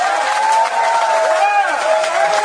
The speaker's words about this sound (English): He's our leader. He does it all. Would you give a wonderful round of applause to Mr. …?